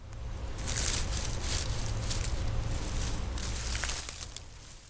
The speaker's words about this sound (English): I recorded the sound of leaves crunching and then added an effect to make it sound more distorted and less recognizable.